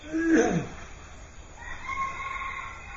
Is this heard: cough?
no